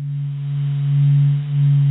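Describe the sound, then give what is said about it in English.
A steady, eerie low hum with a strong single tone and faint overtones, gently swelling and dipping in loudness over two seconds, with no voices: the sound of the sun's vibrations, recorded by scientists from a solar probe. “This is the slightly eerie humming sound made by the vibrations of the sun, as recorded by scientists from a solar probe.”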